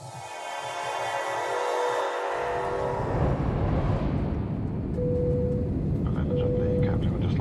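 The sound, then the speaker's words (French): A short musical intro gives way to the loud, steady roar of an airplane cabin on a flight bound for the United States and Mexico, a dense low engine rumble that continues unbroken to the end, with faint tonal hums partway through. “Vous avez 13 ans, nous sommes dans l'avion destination les États-Unis et le Mexique.”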